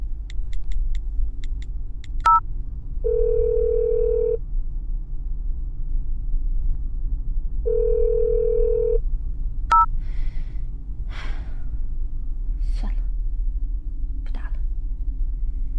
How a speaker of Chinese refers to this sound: 还是给我老公打个电话，先回家吧。哎，老公为什么也不接我的电话呀？奇了怪了，他平时看到我的电话3秒钟就会接起的。